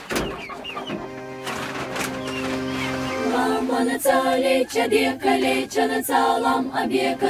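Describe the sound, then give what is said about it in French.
Chickens in a mountain village cluck steadily over a continuous bed of background music, the bird calls fairly loud, growing busier and more rhythmic in the second half. “Ah, il y a toutes les poules.”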